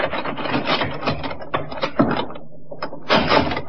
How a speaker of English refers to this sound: The inspector and the sergeant walked for short distance from the inn to Colonel Reed's place of business, almost directly opposite Davis's office. The sergeant tried the door.